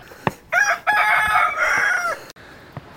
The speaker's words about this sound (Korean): 깜짝아, 뭐야? 야생닭이네?